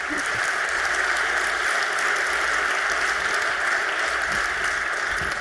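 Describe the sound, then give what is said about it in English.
Steady audience applause, a dense wash of many hands clapping at an even level throughout, with no voices breaking through, for a speaker on functional programming who won a federal IT competition in 1986, and for his talk. “One tiny thing you might not know about him is that 1986, he won a federal competition on IT, and so give him a warm applause for that and also for his talk.”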